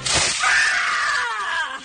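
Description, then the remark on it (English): A loud, sustained scream bursts out after a sharp crash-like onset, a shrill voice holding a high wavering pitch for nearly two seconds before trailing off. “That's just a blast of scream.”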